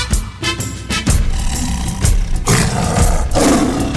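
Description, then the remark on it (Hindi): A lion roars loudly in a series of deep, rumbling bursts that come one after another, each swelling and fading with a rough, growling texture. No voices are heard. “पड़ा उन पे फिर गम कसाया, वहां एक बब्बर शेर आया।”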